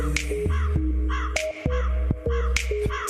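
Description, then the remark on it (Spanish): A raven gives a series of harsh, croaking calls, about five in three seconds. Sharp clicks or knocks mark some of the calls over a steady low background rumble. “Porque lo cierto es que los cuervos, y en general todos los córvidos, son inteligentes, muy inteligentes.”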